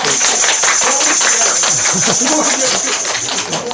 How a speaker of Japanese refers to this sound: そしてあの通りがかりの元若者たちもいっぱい来ています。拍手。